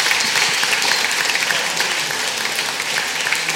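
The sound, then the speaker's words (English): An audience applauds the contestants steadily for several seconds, a dense, loud wash of many hands clapping that holds constant without pause, with no voices standing out. “Shall we give our contestants a clap?”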